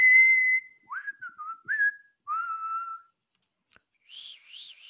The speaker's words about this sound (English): That's how my whistling sounds. Pathetic.